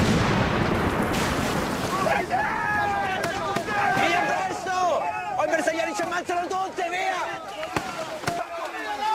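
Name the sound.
gunfire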